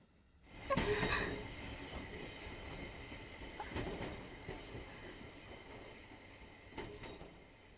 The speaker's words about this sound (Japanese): 大丈夫ですか？ごめんなさい、電車揺れた時乳首思いっきり引っかいちゃって。